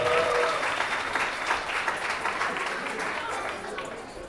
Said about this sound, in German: Die besten Freundinnen. Applaus für die besten Freundinnen.